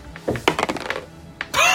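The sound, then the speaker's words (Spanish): Dice tumble across a hard tabletop in a quick, uneven burst of clacks and knocks, followed by a single sharp click and a brief rattling scrape; they come up 4, 4, 5 and 1. “Después me decís a mí de mis dados, ¿eh? Eso. 4, 4, 5, 1.”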